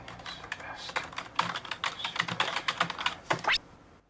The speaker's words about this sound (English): is at home, typing intensely at his computer.